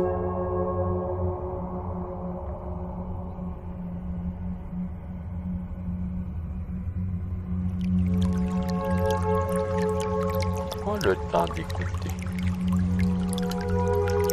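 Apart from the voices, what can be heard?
water lapping gently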